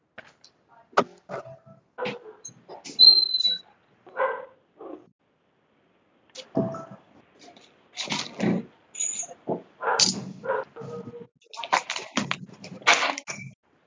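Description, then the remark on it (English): A meeting participant's dog barks after his doorbell rang, in a string of sharp, irregular bursts, some higher and yelping, with short pauses between them, moderately loud. “I figured that was Ron's dog, not mine.”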